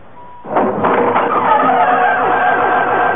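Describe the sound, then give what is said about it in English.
A heavy door in a stone corridor groans open with a long, loud grinding creak that starts abruptly and drags on steadily for several seconds, with no voices. “The door.”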